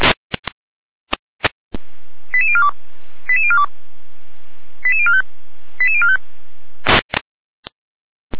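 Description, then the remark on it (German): Radio dispatch alerting tones from a German control centre, alerting emergency units including the Bad Lobenstein emergency doctor and the Liebschütz ambulance to a traffic accident on the L1093 from Blankenberg toward Blankenstein: four quick bursts of stepped, high beeping tones, each run falling in pitch, over a steady radio hiss, framed by sharp clicks before and after. “Leitzelle Gehr mit Alarmierung.”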